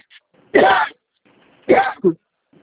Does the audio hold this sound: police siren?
no